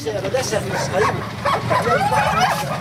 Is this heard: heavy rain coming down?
no